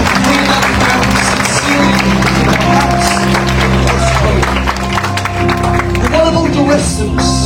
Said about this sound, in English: Let me give a round of applause to those.